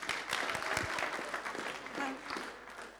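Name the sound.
audience round of applause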